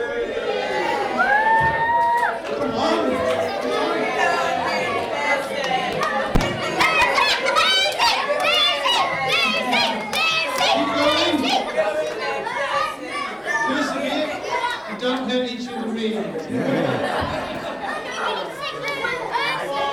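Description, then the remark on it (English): A large group of children cheers and shouts together as the crowd for two opponents, a dense, high-pitched roar of overlapping voices that stays loud and steady throughout, with occasional thuds mixed in. “So let's have some cheering.”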